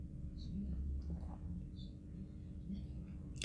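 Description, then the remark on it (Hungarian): A low rumble of thunder following a lightning strike during a storm rolls on steadily for the whole stretch, quiet and deep, with a few faint high chirps flickering above it. “Megrecsent az ég, ám előtte majdnem 2 hasadt az égbolt, akkorát villámlott.”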